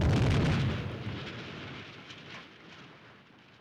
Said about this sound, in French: Au loin, la rumeur d'un réglage de tir.